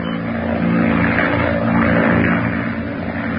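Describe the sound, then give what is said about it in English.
A propeller monoplane drones loudly and steadily overhead as it passes over the French Channel, reported from Cherbourg, France, its engine a constant rumbling hum with a buzzing edge, continuous throughout with no voices. “A monoplane was observed passing over the French Channel by the fishing boat Jamon.”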